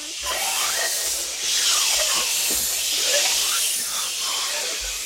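A very strong wind blows in a loud, steady hissing rush, with faint whistling tones that rise and fall as the gusts swell and ease for about five seconds.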